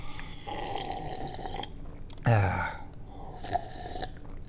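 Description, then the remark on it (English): Slurping sips of hot tea, a long airy slurp followed by a throaty gulp, then a shorter slurp, with no talking. “All right, so anyway, maybe we need to take one last sip of tea here.”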